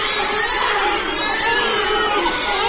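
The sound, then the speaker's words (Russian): Forty-six newborn babies born to surrogate mothers wail at once in one room of a hotel owned by a private reproductive medicine centre, a dense, overlapping chorus of high, strained cries, loud and continuous with no pauses, without any talking. “В одной комнате плачут одновременно 46 младенцев.”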